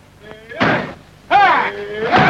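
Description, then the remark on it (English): Heavy filing cabinets are shoved and banged against a door in three loud bursts, each a grinding thud, while a strained voice shouts over the commotion. “Get filing cabinets. Yes. File them up against that door.”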